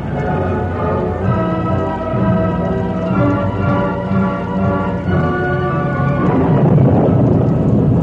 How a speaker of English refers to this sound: Lone Ranger's hope was not in vain. The rain continued to fall heavily for the next 3 days.